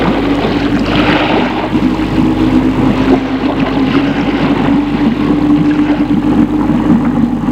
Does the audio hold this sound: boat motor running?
yes